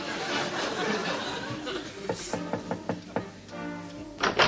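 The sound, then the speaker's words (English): A quick run of six or seven sharp knocks on a temple door, followed by a drawn-out creak as a woman of the temple swings it open, all over a noisy, murmuring background. “The door were opened by one of the exquisitely delicate ladies of the temple.”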